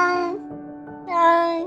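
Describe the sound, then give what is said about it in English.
A cat meows twice in close succession to be let out, each a drawn-out, tonal cry with a short quiet gap between them, the second call a bit louder and longer, with no talking. “We know when our cat wants to be let out.”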